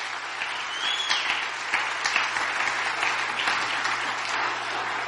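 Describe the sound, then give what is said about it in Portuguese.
Sustained applause from an audience giving a good hand for Jesus, dense and steady clapping that keeps a constant level for several seconds with a few louder claps standing out, over a faint low hum. “Come on, let's give him a good hand in Jesus' name.”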